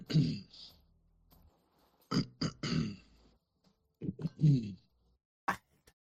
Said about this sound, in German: Aber dieses ewige da reingeräuspere, ganz ehrlich, wenn ich mich räuspern muss, meistens, wenn ich dran denke, 9 von 10 Fällen mute ich schnell mein Mikrofon